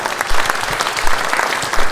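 Steady applause from an audience in a hall fills the whole stretch, a dense patter of many hands clapping at once, loud with no voices standing out, applauding Jean-Luc of SMN, who is on the technical crew.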